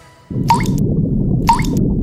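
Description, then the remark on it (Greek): Two clear water drips fall a second apart, distinct, over a steady low wet background, as water drips from a sponge used with a bucket to wash a car instead of a hose. “Πλένουμε το αυτοκίνητο με κουβάκια σφουγγάρι, όχι με λάστιχο.”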